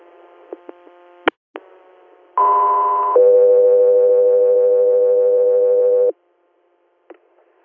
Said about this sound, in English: Scout 3 Air, stand by for tones.